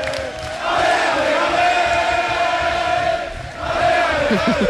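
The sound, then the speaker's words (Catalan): A large crowd of football fans cheers and chants in a continuous loud roar, voices rising and falling together with shouted bursts, briefly dipping before swelling again. “passo per Canaletes, que hi ha l'Oriol. La gent està de retirada ja o no? Mira, escolta-ho tu mateix.”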